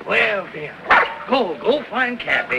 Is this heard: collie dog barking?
yes